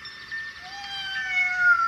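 A cat lets out a long, drawn-out meow, a single sustained high-pitched cry that holds steady and swells slightly louder toward the end, with no one speaking.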